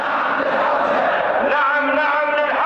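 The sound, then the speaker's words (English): An overflow crowd of Shia Muslims at Friday prayers in Iraq chants "Yes, yes, Hausa" in unison, many voices rising together in a loud, sustained, rhythmic cry with harmonic, shout-like tones that swell near the end. “At Friday prayers, an overflow crowd begins to chant, "Yes, yes, Hausa."”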